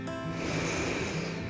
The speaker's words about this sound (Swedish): 5 djupa andetag där du andas in djupt genom näsan. Andas ut genom munnen och säg ha. 5 sådana. Andas in.